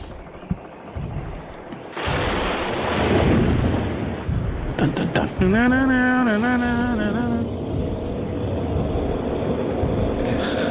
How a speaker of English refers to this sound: This is just ambient storm sound.